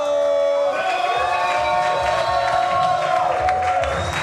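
An audience at a comedy show breaks into loud, steady applause and cheering as a comedian is introduced, with sustained tonal whoops or music riding over the dense clapping for the whole stretch.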